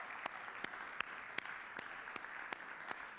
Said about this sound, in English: A massive shout out to our tech team, to those in our worship team, to those that came and did things that they didn't think they could on camera, but they gave it a crack. Why don't we just give it up in one massive round of applause.